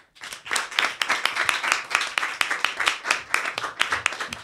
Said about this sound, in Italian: Un applauso fortissimo per Dolo.